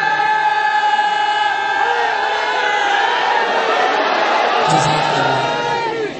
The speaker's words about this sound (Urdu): جتنی طاقت کے ساتھ برادران نے نعرہ لگایا, اتنی طاقت کے ساتھ اپنے جواب نہیں دیا. تمام برادران وہ دوبارہ نعرہ لگائیں تاکہ پورے مل کے ہاتھوں کو بلند کر کے جواب ملے.